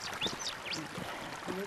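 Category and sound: nature, running water trickling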